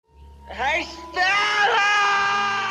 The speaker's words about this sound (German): Ein Schrei, der Theater- und Filmgeschichte schrieb. Erstmals zu hören am 3. Dezember 1947 am New Yorker Broadway.